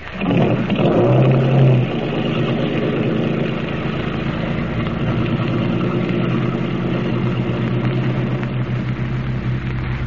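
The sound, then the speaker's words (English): A car engine runs steadily, a low rumbling idle with a brief louder surge at the start before settling into an even, continuous drone. No one speaks. “But to get hold of a car that'll carry us to freedom.”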